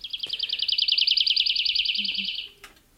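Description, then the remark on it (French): A woodlark sings a fast, even trill of repeated liquid notes that runs for about two and a half seconds, clear, with no voices and only a faint background. “Mais si on transcrit ça au piano avec des accords, mais sur des notes fixes, les touches du piano, c'est une gamme fixe, et bien malgré ça, on reconnaît en quelques secondes l'alouette Lévy”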